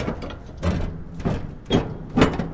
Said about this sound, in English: A safety specialist closes the large, heavy door of an empty 40-foot shipping container at Bridge Terminal Transport in Charlotte.